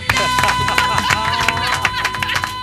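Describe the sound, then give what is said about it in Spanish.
A steady burst of applause, dense overlapping claps forming a continuous crackle with a faint murmur of voices underneath, holding at a fairly loud level throughout. “El aplauso.”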